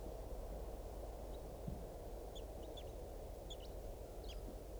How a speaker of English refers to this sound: Wild bird is giving some very soft flight calls.